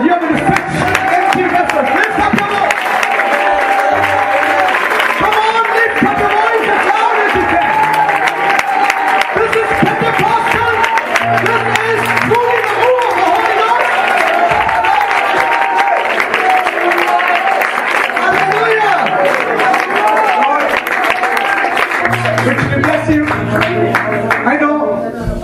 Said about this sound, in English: How many of you are willing to give with a praise offering, with a shout offering, with a clap offering?